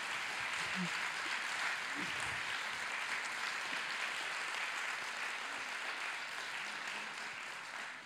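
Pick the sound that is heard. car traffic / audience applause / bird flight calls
audience applause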